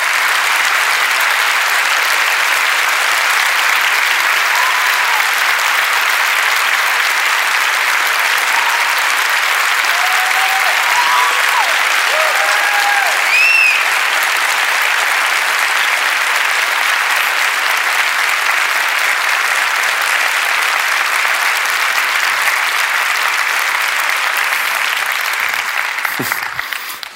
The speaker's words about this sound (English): Thing bad about asking you to stand is we all want to stand in applauding for you